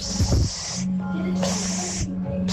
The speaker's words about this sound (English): So there's some amazing spray bottle sounds coming in. Like, listen to these three.